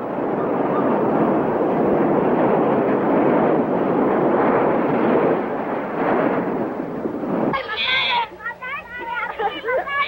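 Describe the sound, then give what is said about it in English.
Waves wash up on shore in a steady, broad rushing hiss that swells and recedes for several seconds, then cuts off abruptly into wavering, high-pitched vocal sounds. “Waves wash up around them.”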